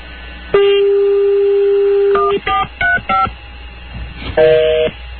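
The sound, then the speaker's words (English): A steady dial tone hums, then four quick touch-tone key presses beep in succession, followed after a short pause by a brief, bright electronic beep from the phone line. “Now I'm going to get the beep.”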